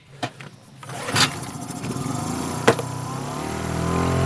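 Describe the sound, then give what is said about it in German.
A small 10-horsepower outboard motor on a raft sputters and catches after a few sharp clicks, then settles into a steady droning hum that holds through to the end, as the raft sets out at walking pace toward the Elbe in northern Germany. “Verwandelt sich das kleine Floß gleich in Motorboot? Nein, wir haben hier bescheidene 10 PS.”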